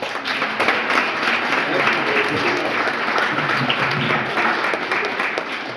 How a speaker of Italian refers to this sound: Ha vinto questo, un applauso.